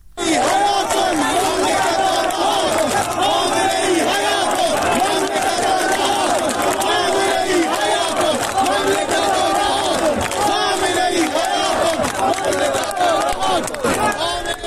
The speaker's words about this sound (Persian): بخشی از شعارهای مردم هست: توپ تانک فشفشه، آخوند باید گم بشه، خامنه ای قاتله، ولایتش باطله و شعارهای دیگری سر دادن.